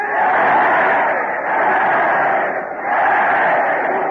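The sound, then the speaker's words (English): A large crowd roars out three loud cheers in a row for Fred Allen, each swell of voices merging into the next with brief dips between, sustained. “Look at that crowd. They're giving three cheers for Fred Allen.”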